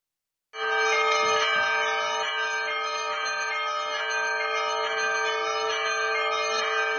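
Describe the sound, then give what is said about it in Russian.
Church bells of a church in Volgograd peal continuously and loudly on its patronal feast day as it greets Metropolitan Feodor, their overlapping ringing tones filling the air in a dense, sustained clamor that begins abruptly and holds steady throughout, with no voices. “Сияя золотыми куполами и оглашая окрестности колокольным звоном, встречает архипастыря храм-именинник.”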